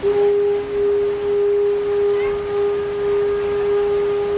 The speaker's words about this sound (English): But beyond what you can see, the trip is a treat for your ears, too. I find the sounds of the ferry soothing. They give me a sense of peace, even when commuting to work. You'll hear the sounds of the boat horn as it pulls out of the slip